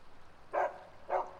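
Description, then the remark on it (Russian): A shaggy dog running on a bridge over water in fog barks twice, two short sharp woofs about half a second apart, fairly clear over a quiet background, with no one talking. “Туман, собака бежит лохматая.”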